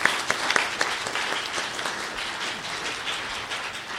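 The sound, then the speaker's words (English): A crowd breaks into applause for the Mama Dragons, a dense, steady patter of many hands clapping at moderate loudness for about four seconds, with a few sharper claps at the start. “I will applaud for that one too.”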